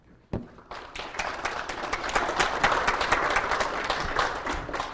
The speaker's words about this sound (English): Thank you, and I'd like to thank you both for participating. Let's give them both a big hand of applause, round of applause.